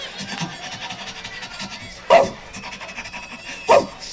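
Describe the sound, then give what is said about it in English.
A tracking dog sniffs and pants while trying to pick up a trail, in quick, steady breathy bursts, with two louder snorting huffs standing out partway through. The sound stays low and continuous throughout. “He's just trying to sniff it out.”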